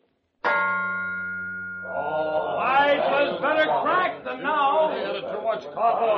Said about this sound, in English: Don't say I told you so, but the sound of that there bell reminds me of my horse kicking against the water trough.